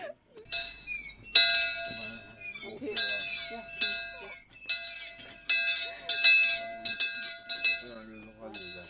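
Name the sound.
bell being rung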